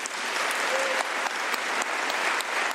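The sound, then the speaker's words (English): Sustained, dense applause from a large crowd of delegates at the end of Margaret Chan's speech in Geneva, a steady roar of many hands clapping at once with no pauses and no voices standing out above it. “Judging from the rousing applause at the end of her speech, the delegates appear to have given Margaret Chan an A for her work during the past 10 years.”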